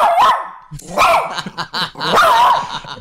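A small dog, played as a sound effect, barks three times in sharp, high-pitched yaps, loud, spaced about a second apart, with brief muffled sounds in between.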